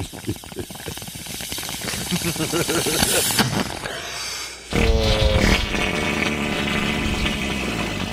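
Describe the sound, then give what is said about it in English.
A long, raspy sputtering fart sound effect gives way after a brief pause to a louder, wetter, buzzing blast, both loud with a hissy texture. “Farts are in sound effects, too.”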